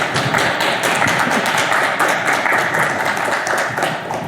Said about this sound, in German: Ja, vielen Dank für den Vortrag. Nochmal einen großen Applaus für die beiden Vortragenden.